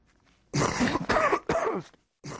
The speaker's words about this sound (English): A simple cough can spread a number of deadly diseases, including tuberculosis.